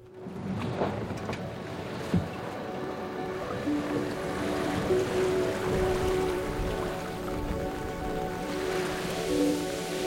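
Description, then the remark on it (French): Water sloshes and washes steadily around a boat, with a broad rushing wash, occasional creaks and knocks, and a faint low hum throughout, continuous with no talking. “Aujourd'hui, deuxième épisode, on est à bord.”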